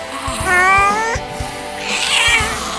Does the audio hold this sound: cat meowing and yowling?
yes